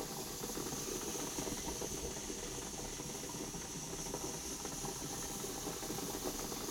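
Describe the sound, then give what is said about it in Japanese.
Steady warm steam hissing continuously onto a person's face, a broad soft rush with faint bubbling and clicking underneath, unchanging in level throughout with no voices. “あったかい蒸気が顔に当たって気持ちいいでしょう。”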